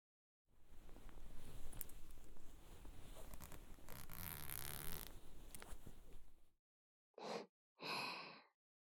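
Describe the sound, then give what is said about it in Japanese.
A steady rasping of a trouser fly zipper being slowly opened for several seconds, followed by two short breathy bursts after a brief pause. No talking. “じゃあ、お兄さんは、ズボンの前チャック、開けてください。”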